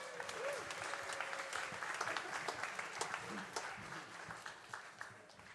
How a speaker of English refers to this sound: Can we give our eggheads a round of applause?